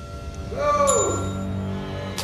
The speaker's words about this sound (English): Edgar stops to listen. Jay's ringing the bell on reception.